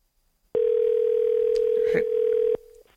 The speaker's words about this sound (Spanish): Creo que están llamando por teléfono. Esperemos que esta vez la persona esté en la casa.